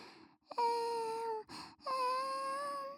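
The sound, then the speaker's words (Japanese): A voice imitates a baby crying to tell its mother it is hungry, with two long, wavering wails separated by a short breathy gasp, sustained and fairly loud with a steady mid-high pitch. “って泣いてママたちに教えてくれるんだよね。でもまだ赤ちゃんになりきれてないかな。”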